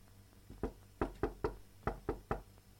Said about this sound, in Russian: Спустя некоторое время кто-то осторожно постучал в дверь.